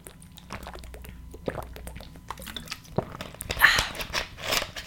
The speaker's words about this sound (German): Erstmal trinke ich einen Schluck Wasser. Moment, bisschen weit weg. So, Wasser trinken kommt wieder mal viel zu kurz.